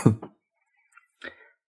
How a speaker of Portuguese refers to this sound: Terminou de tossir? Uhum. Terminei.